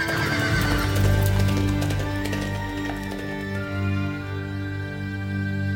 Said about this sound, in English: Within minutes, the Bruce and Ned, enveloped in thick cloaks, galloped northward and into their destiny.